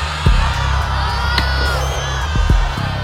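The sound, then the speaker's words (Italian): A studio audience cheers loudly and continuously, a dense wash of crowd noise laced with rising whoops and high shouts, punctuated by a few low thuds. “Hai sentito il pubblico?”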